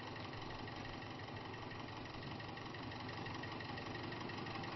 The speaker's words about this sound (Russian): Я послал водителю грузовика, чтобы тот включил мотор.